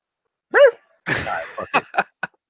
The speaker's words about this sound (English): Look at my dog trying to get in the frame. trying to get the cameo. Bark. Say hi, Lola.